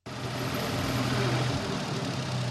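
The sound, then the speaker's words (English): A tractor engine idles steadily on a farm in Salinas, California, on a windy afternoon after turning over organic alfalfa, a low continuous rumble with a throbbing hum that holds even for a few seconds, with no voices. “Laurentino Piazza steps off a tractor on a windy afternoon.”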